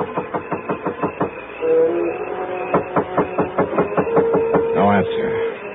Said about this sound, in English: Well, 124 North Bundy was a small, solid-looking house almost hidden by the remains of a neglected orange grove. There were no lights on, but I went up to the front door and knocked.